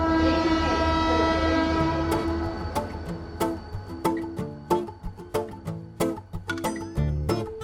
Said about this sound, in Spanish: Estos son los sonidos del ferrocarril que nos invitan a viajar en el tiempo y en el espacio con el tren de la Fundación de los Ferrocarriles Españoles que acaba de entrar en nuestra estación.